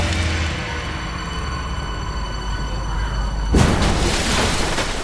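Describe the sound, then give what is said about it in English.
A steady engine drone with tonal harmonics runs for a few seconds, then breaks into a loud, broad rushing crash and churning splash as a swerving bus plunges into water. “Trying to crash into the water!”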